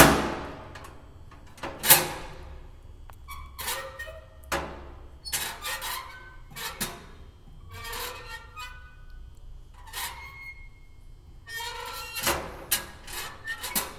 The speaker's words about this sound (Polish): Są skrzynki. Otwieranie i zamykanie takiej euroskrzynki.